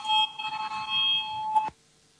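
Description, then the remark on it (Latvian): A parliament voting bell rings before a vote on proposal 10 of a bill on drink-container deposit packaging, one steady, continuous electronic tone for under two seconds, then cuts off abruptly, leaving quiet room sound and no voices. “Lūdzu zvanu, balsosim par 10.”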